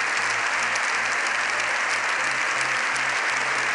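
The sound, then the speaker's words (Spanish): Sustained applause in Spain's Congress of Deputies in Madrid, welcoming Pope Leo XIV with seven minutes of clapping: a dense, steady wash of clapping with no pauses, loud and even throughout, with low rhythmic thuds underneath. “Esta mañana el pontífice ha dado un histórico discurso en el Congreso de los Diputados, donde se le ha recibido con 7 minutos de aplausos.”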